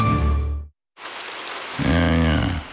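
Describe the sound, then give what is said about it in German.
Steady rain pours down with a dense, continuous hiss after a brief musical tail and a moment of silence; a low, drawn-out groan sounds over the rain near the end. “Regen. Bläh. Ewig grau.”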